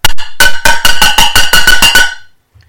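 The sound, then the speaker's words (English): A rapid series of about nine loud metallic clangs as two hammers strike each other, each hit bright and ringing with a steady high-pitched tone, then the ringing stops abruptly. “Okay, I'm going to bash two hammers together to make a clang.”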